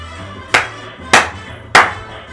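A movie song plays, heard here as three sharp, evenly spaced clap-like beats about half a second apart over a steady low droning hum, with no voices.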